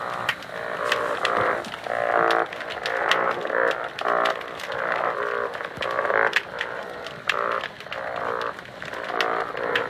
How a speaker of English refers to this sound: It was amazing to hear the sound of the singing fish alive. But right now we could hear it even underneath the water, so we can safely say that it's not a myth anymore.